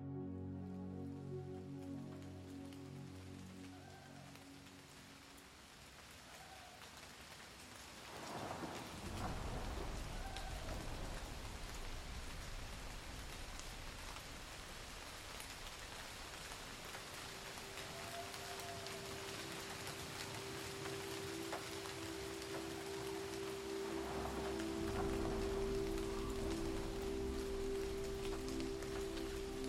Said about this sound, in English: A passing rainstorm refreshes a lush green island surrounded by the deep blue of the Pacific Ocean. As the clouds gather overhead, the people below seek cover under rooftops and overhangs to wait out the passing storm.